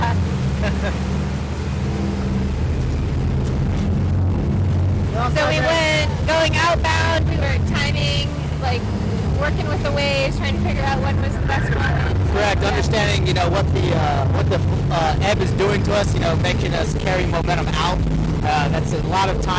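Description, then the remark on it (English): A motorboat engine drones steadily while wind buffets the microphone and repeated thuds and splashes suggest the hull slamming through big, rough waves; people talk intermittently over the noise. “So from my perspective, these waves seem really big, and I just got a little seasick.”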